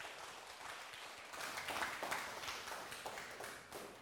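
An audience at a Buddhist Dharma class applauds steadily for about four seconds to welcome the monastic lecturer, a dense crackle of many hands clapping that swells a little partway through and then holds at an even, moderate level, with no voices.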